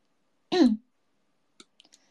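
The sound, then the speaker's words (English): A short voiced sound, then a quiet pause and a few light, quick keyboard key clicks in an uneven, soft cluster. “Oh, they sound so different.”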